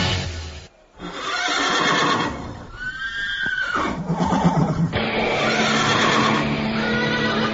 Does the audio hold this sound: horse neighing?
yes